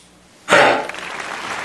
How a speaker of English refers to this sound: Just remember how bad that cough was. Oh, boy. Too much. I feel bad for her. She was so sick.